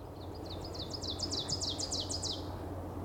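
An ovenbird sings a rapid series of about ten bright, repeated two-part notes that grow louder toward the end, over a low steady background hum.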